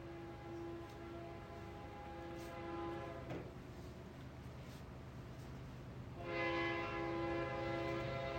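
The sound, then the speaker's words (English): A train going through Torrington rumbles past while its horn sounds in two long blasts, the second louder, over a steady heavy roar of rolling cars. “How often does a train go through Torrington?”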